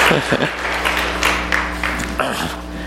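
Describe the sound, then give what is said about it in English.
A round of applause for a volunteer after a trust-fall demonstration: many hands clapping in a dense, steady patter for about three seconds, with a low constant hum underneath and a couple of brief voice murmurs. “Round of applause”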